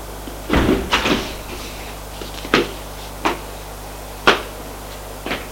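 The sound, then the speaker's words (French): Mechanical door sounds, like an elevator door sliding open and shut, with a burst of rumbling and clunks followed by several sharp knocks spaced irregularly over a low steady hum. “Pour aller jusqu'au 4e étage. Puis sort de l'ascenseur.”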